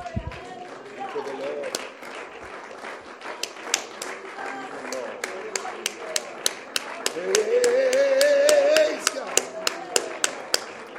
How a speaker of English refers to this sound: And would you say, praise the Lord, and clap your hands as unto the Lord.